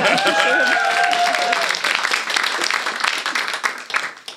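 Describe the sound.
A short burst of applause, a few hands clapping in a fast, dense patter for several seconds, with voices talking and exclaiming over the first part before the clapping thins out.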